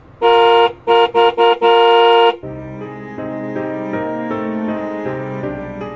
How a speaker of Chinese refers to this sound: 背后突然急促地响起汽车喇叭声